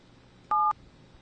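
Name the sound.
telephone keypad dialing tones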